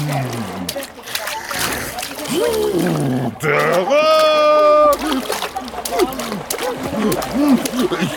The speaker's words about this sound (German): Ich hab Wasser geschluckt. Nein, Hilfe! Nicht spritzen